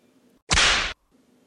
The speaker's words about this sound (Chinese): 来，再来一鞭子。